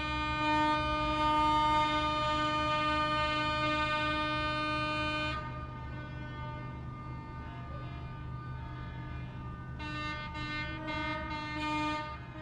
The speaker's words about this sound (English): Someone said this was something called Flash Dads, an initiative that invites men from the community to greet students and encourage achievement. The sanitation workers were participating and made their horns part of the greeting.